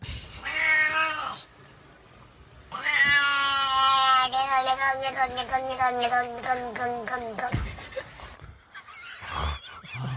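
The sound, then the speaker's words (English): A cat yowls in two drawn-out, wavering cries: a short meow, then a long, loud caterwaul that rises and wobbles in pitch before trailing off into quieter noise. “Like, is this cat racist?”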